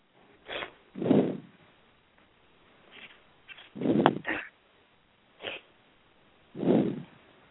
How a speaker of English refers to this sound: Hey, if we didn't have any new, somebody's breathing really hard in their phone.